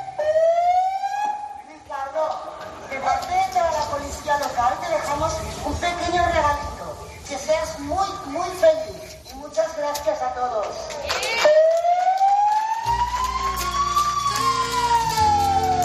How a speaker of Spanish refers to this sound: Pues así, con las sirenas de la policía local y un megáfono,